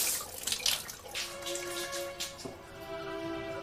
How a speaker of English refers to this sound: In the bathroom, she turns on the showerhead. As the water runs